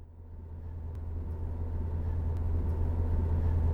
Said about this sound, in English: This is me back in the car again, as you can tell from the loud noise.